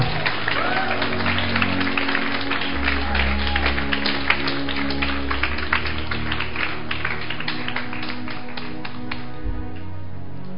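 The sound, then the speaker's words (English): An audience claps steadily for about ten seconds, many hands blending into a dense, crackling patter over a low droning hum, thinning out slightly toward the end, clapping for Jesus at the last session of a teaching series. “I think you need to clap for them.”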